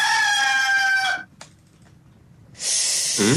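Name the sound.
rooster crowing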